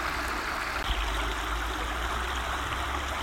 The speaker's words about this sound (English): In front of me, there's a huge bank. And under it, there's a concrete archway which is channeling the water of this stream down towards where the water treatment works once stood.